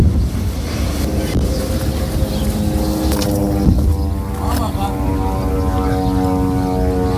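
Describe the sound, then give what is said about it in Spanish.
A steady, droning warplane engine roars overhead over Gaza for the whole stretch, its pitch slowly shifting, mixed with wind buffeting the microphone and a few dull, muffled thumps of explosions in Rafah, in the south of the Gaza Strip, recorded along the Gaza border fence. “Explosiones en Rafah, al sur de la franja, que venían acompañados de ese sonido también que escuchábamos de aviones sobrevolando Gaza.”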